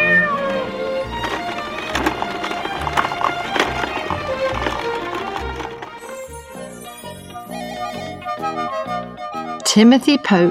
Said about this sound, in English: A shark? Fancy that! It's only a cat. Meow!